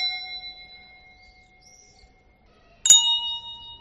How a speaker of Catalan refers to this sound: De fet, el toc de difunts és molt ric aquí a Reus perquè n'hi havia moltíssims. És a dir, hi havia el de quarta classe, que és el de Painous, que és el que estic fent jo ara, amb les dues campanes abatallades simplement, és a dir, sense moure-les.